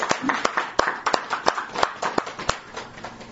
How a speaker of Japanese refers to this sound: この拍手はネットを通じて、届けさせていただけると思います。きっと兄もね、皆さんの拍手を聞いて、喜んでくれることと思います。